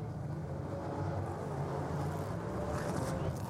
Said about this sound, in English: Well, you can probably hear that we've got cars on track, so let's have a look at the grids.